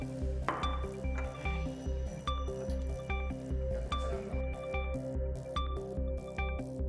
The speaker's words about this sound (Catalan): Perquè aquesta reacció es dugui a terme correctament, s'ha de fer en medi àcid i, per tant, hi afegirem unes gotes de la dissolució d'àcid sulfúric.